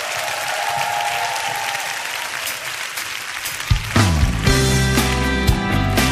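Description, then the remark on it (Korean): An audience applauds in praise to the Lord in a steady, dense wash of clapping, and after a few seconds loud music with deep bass and sustained chords comes in over the ongoing applause. “주님께 더 큰 박수로 찬양하십시다.”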